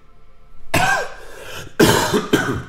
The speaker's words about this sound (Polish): Ciągle mnie jeszcze trzyma. Ale już puszcza. Już jest kaszel mokry, tak zwany.